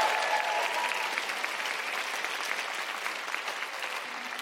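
Steady audience applause, a dense wash of many hands clapping at a fairly even loudness throughout, easing off only slightly toward the end. No one speaks over it.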